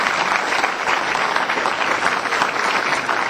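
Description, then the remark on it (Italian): Sustained audience applause, a dense crackle of many hands clapping at steady loudness throughout, continuous with no voices standing out. “Applauso, perché mi sono fermato, eh?”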